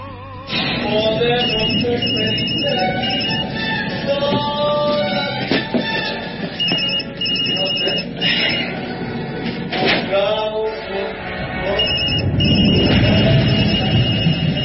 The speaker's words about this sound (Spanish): Si alguna vez suena este celular, es que estoy muerto. Ay. Esto comienza, ella recibe esta llamada de otro celular y lo que se da cuenta es que tiene que salir corriendo.